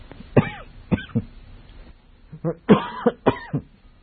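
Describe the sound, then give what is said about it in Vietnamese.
A person coughs repeatedly in harsh bursts, a few single coughs followed by a denser cluster of hacking coughs, with no speech between them. “Tôi mà ho nhiều là tôi nghĩ á nghe.”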